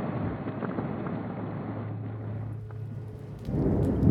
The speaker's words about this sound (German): Die Südspitze Maltas in ein spätabendliches Lichtermeer getaucht, am Himmel ein dunkelviolettes Gewitter, unterbrochen von drei scharfen, gezackten, grellweißen Blitzfingern und schwarzen Wolkentupfern.